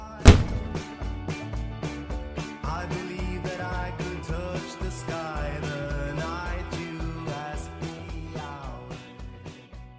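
A door slams shut with one loud, sharp thud at the very start as a woman carrying her bags steps out through it, then rhythmic music with a steady beat takes over and plays on.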